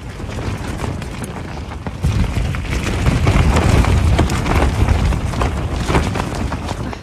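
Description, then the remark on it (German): A cold night storm of heavy wind and rain roars steadily, with deep buffeting gusts that swell louder after a couple of seconds and dense crackling patter throughout. “Was aber vor allem genervt hat, ist, nachdem man so nass geworden ist den Tag über durch den Regen, war das relativ kalt, vor allem noch in Kombination mit diesem Wind.”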